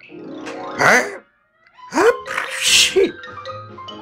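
A loud sneeze from a man who has just lowered binoculars from his eyes and bent down: a short voiced gasp, a brief pause, then a drawn-out, explosive 'achoo' that trails off, heard on its own with no talking.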